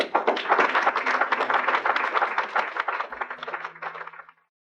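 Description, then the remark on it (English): A crowd in a film scene bursts into sustained applause, prompted by a speaker's last line demanding an end to segregation, dense overlapping claps at a steady loud level for about four seconds before quickly dying away. “that last line, which prompts the applause, is one of the most quoted lines from the film.”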